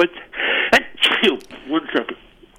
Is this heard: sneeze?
yes